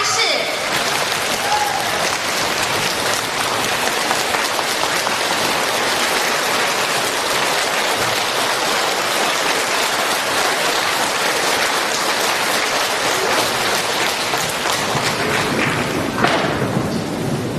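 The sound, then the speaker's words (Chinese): A large audience at a Buddhist dharma assembly claps enthusiastically to welcome Master Lu Junhong, a dense, steady roar of hands that stays loud and even for the whole stretch before briefly swelling near the end. “现在慈悲的卢军宏台长将为我们开示，让我们用最热烈的掌声恭请我们尊敬的卢军宏台长为我们慈悲。”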